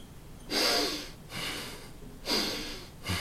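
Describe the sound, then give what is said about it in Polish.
Deep, airy breaths drawn in and pushed out through the nose while taking ten deep breaths, with about two full slow inhale-exhale cycles in a steady rhythm and no talking. “A teraz weź 10 głębszych wdechów i wydechów nosem.”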